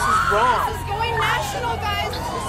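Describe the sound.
A busy street commotion with immigration enforcement officers in action: overlapping raised voices and shouts, fairly loud, over a steady low rumble of traffic and crowd noise.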